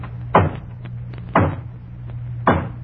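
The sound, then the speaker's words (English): Three hollow knocks on a front door, performed as a sound-effect demonstration, evenly spaced about a second apart, loud, with a low steady hum underneath and no voices. “And then there's the hollow knock on the front door.”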